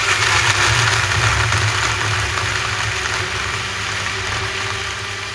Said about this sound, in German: Sorry, ich muss mal kurz den Mixer anmachen.